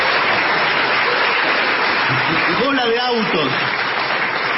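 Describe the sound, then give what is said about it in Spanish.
Steady, dense applause congratulating the people behind the kiosk El OVNI fills the whole stretch at a loud, even level, with a brief voice rising over the clapping partway through. “Con el OVNI lo felicito, merece un aplauso.”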